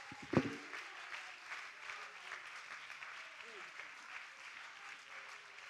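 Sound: audience clapping hands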